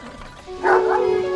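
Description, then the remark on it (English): A dog standing at the mouth of a cave gives a sustained, wavering howl that rises after a brief quieter yip, loud, with faint background noise underneath. “See him standing at the, like, yeah, mouth of the cave howling”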